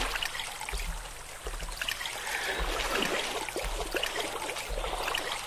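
In a video game, a steady stream of water trickles and splashes continuously as water is collected, a bright, busy rush with small bubbling spikes throughout, moderately loud with no voices.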